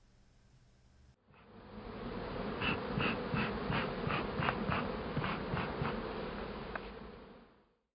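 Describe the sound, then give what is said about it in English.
A dense, steady drone of many honeybees (Apis mellifera watsonia) buzzing around a rooftop hive, starting abruptly and holding at an even loudness for several seconds before fading out, with no voices. “On the first anniversary after Sherlock's death, Joan observes it by spending all night on the roof, watching the bees, his notes on Apis mellifera watsonia surrounding him.”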